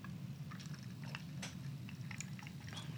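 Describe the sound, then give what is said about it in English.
Someone sips a drink from a cup, soft wet slurps and small mouth clicks scattered over a few seconds against a low, steady background hum, with no talking. “So here I am drinking out my good, decent cup that my good, decent friend, Cherry Lee Pinder, gave me.”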